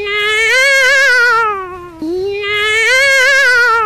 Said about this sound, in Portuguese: Acabou se espantando com o grito do gato.